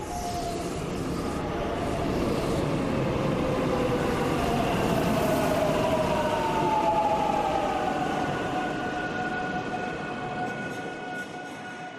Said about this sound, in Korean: 그즈음 기차가 한 역에 멈춰섰다. 각 차량의 문이 열리고 일부 사람들이 내리자 시원한 공기가 밀려들어왔다.